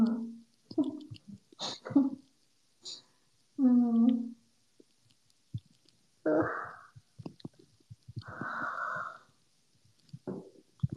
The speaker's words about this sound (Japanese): 無理あくび編だわ。